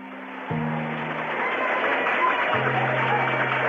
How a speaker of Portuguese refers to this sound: Aplausos na plateia.